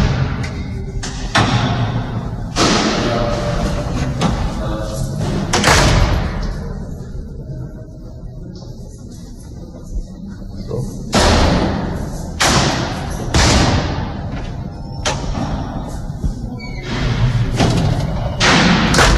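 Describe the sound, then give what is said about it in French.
Heavy prison doors slam repeatedly, loud booming thuds at irregular intervals over a constant dull institutional rumble and indistinct voices of men shouting. “Tous ces bruits, ces mecs qui gueulent, ces portes qui claquent.”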